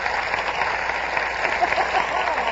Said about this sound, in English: Applause.